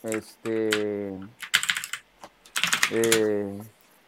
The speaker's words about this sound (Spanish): ¿Tienes que darle la madre al teclado? Sí, güey, deja de... Estoy golpeando mi teclado fuertemente. Sí, ya lo vi, güey. Aporreando el teclado, güey.